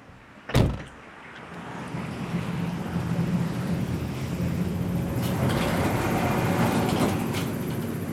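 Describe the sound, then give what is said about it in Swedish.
A sharp thud like a closing door, then tram number 1 in Tallinn, bound for Kopli, rumbles steadily along its rails, the low roar swelling and holding with faint metallic squeals. No one speaks. “Jag tar spårvagn nummer 1 och nu står det koppli i vindrutan.”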